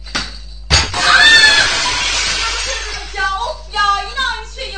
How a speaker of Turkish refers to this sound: Eyvah. Cam kırıldı.